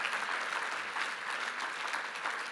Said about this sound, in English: And let's clap our hands one more time to the Lord of hosts. Come on.